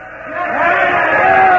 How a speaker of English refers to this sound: Now that cheering you hear is the way people cheered the day Franklin Delano Roosevelt came to town and visited Muscle Shoals. It was January 33. He wasn't president yet, just president-elect. Well, we crowded the station and watched him shuffle out.